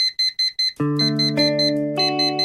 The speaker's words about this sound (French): Le réveil sonne comme tous les matins.